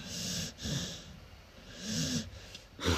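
Close, rhythmic snoring with several raspy, snorting breaths in a steady cycle, each one a rough low rumble with a breathy hiss, and no talking.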